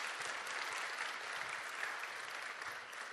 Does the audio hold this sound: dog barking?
no